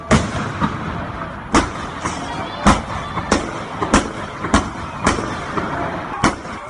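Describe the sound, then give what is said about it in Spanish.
Sharp gunshots crack out irregularly, around ten in a few seconds, some louder than others, over a constant rumble of street noise and faint voices: National Guard gunfire during clashes in Barquisimeto, western Venezuela, recorded on a mobile phone from a home balcony. “Han vuelto a repetirse enfrentamientos entre el régimen de Maduro y opositores, con disparos de la Guardia Nacional mientras la población salía huyendo despavorida de sus propios domicilios.”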